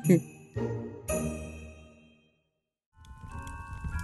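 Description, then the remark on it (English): A bell rings out three times in quick succession, each strike ringing and fading into silence, followed by a burst of busy, jangly background noise. “Every time a bell rings, an angel gets their order from a concession stand at a go-kart track.”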